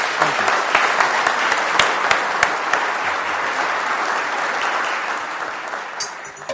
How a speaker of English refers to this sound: It's always a measure of a talk if when the chair has to shut off question time, and I apologise for that, but I would like you all to join me in one final round of applause. Thank you.